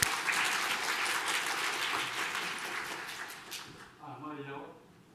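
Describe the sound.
A crowd applauds steadily for several seconds, a dense wash of clapping that fades out as a man's voice begins speaking near the end.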